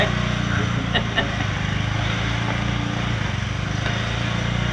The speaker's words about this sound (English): And they've got a boat going now